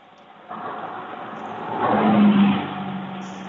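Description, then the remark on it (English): Cars driving past, a steady road rumble that swells as a vehicle's engine hum approaches, peaks loudly, then eases off slightly. No one speaks. “Now I'm hearing you getting mowed over by some cars.”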